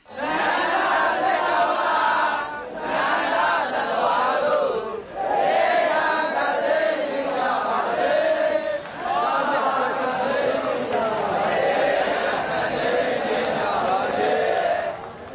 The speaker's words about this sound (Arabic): وشارك في أعمال الاحتجاج رهبان رددوا هتافات خلال المظاهرة مطالبين بالديمقراطية.